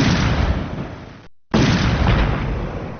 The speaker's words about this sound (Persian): اما با صدای انفجار دوم نیروهای امنیتی به سوی مجلس عمومی شتافتند و تمامی نمایندگان و خبرنگاران را جایی که نسبتاً مسئول بود انتقال دادند.